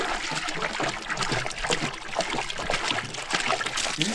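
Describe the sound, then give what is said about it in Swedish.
Water sloshes and gurgles inside a heavy water canister being lifted and set down in an animal paddock, a steady churning with small splashes throughout, no voices. “Oj, nu lyfter du de tunga dunkarna och du ska få sätta en dunk med vatten här i den här hagen.”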